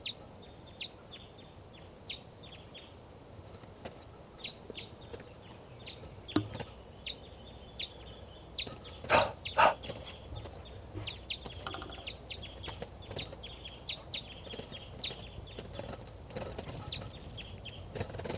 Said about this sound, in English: So recording that wild bird is still here. I think it's a lone female. And she's up in the trees here by the truck, and she's coming down.